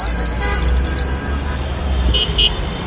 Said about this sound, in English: Walking around Dhaka now, it's really, really busy. It's full of people. You hear rickshaws and cars.